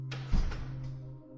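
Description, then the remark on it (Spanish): A door swings shut with a single heavy thud, followed by a short fading rumble over a steady low hum. “La puerta del zombi se cierra.”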